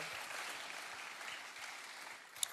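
Steady audience applause at Heart of God Church for a young church leader, a dense crackle of many hands clapping at an even level throughout, with one sharp louder clap near the end and no voices.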